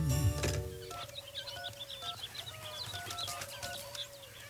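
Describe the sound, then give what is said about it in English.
A busy mix of chirping calling birds and clucking French hens (four calling birds, three French hens), with brief wing flaps and rustling, continuous with no talking. “Yes, I got the calling birds. Yeah, the man just dropped them off.”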